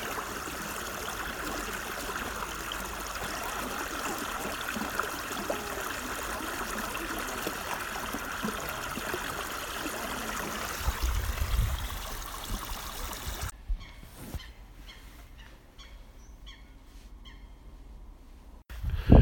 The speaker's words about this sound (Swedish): Våren är här lyssna på de porlande bäckarna, vattnet forsar fram i den lilla bäcken.